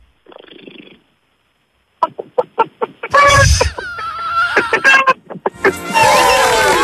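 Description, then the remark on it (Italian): A voice imitates a conversation between a cricket and a hen as a talent act on the show La Corrida: a quick run of sharp, rhythmic chirps, then loud clucking and squawking hen sounds trading off with scratchy cricket-like trills. “La conversazione tra grillo e gallina.”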